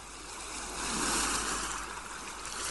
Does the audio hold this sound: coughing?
no